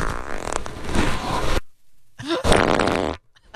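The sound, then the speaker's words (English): Two loud farts from one straining person: a long sputtering, buzzy blast lasting over a second, a brief pause, then a shorter raspy burst that rises in pitch before cutting off. “This is farts these are.”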